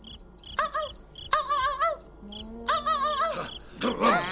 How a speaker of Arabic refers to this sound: ما هذا الصوت؟ إنه صوت الكلب الصغير.